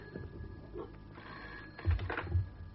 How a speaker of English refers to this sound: It's the phone.